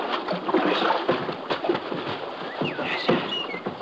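Steady water sloshing and splashing as a rowboat on a river moves in toward the riverbank, with a few brief bird chirps rising faintly in the background.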